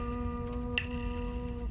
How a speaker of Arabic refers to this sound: أريدك أن تشعر بالمطر وهو يتساقط برفق من السماء.